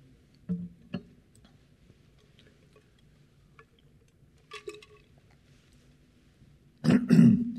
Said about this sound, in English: This happens every time. I talk at home. I do this to Sherry. Not one problem. Come up here. You're coughing all day.